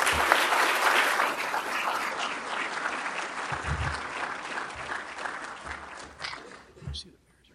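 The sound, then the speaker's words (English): Sustained audience applause at an unveiling ceremony, dense, with many hands clapping steadily before gradually thinning and tapering off toward the end. “You all need to be applauded.”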